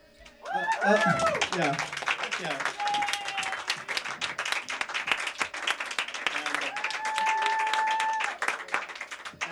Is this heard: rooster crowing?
no